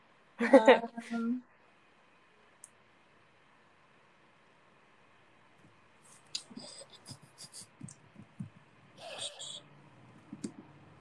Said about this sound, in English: I'm like tearing up this piece of paper.